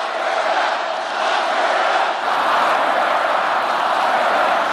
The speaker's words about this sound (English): Trump not letting go of his former opponent, Hillary Clinton, and her email controversy. They set up an illegal server, destroyed evidence, deleted and acid washed 33,000 emails. The crowd gleefully bringing back an old chant.